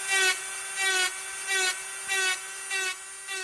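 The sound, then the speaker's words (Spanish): A dental drill whirs with a steady high-pitched whine, surging louder in short regular bursts about every half second, with no voices. “El sonido que emite un taladro dental es uno de los más repulsivos y sigue aterrando a gran parte de la población mundial.”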